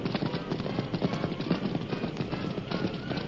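horse hooves galloping

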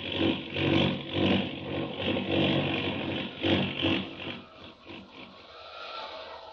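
airplane engine

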